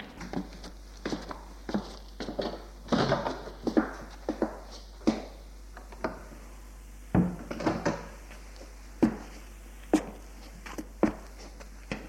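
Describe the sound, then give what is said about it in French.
A servant closes a door with a solid thud amid a series of sharp knocks and footstep-like taps spread unevenly over about twelve seconds, with no voices. “Elle est entrée, le domestique a fermé la porte et l'amène au salon.”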